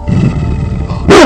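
A female dog growls low and steadily, then lets out a single loud, sharp bark at the end, with no one talking.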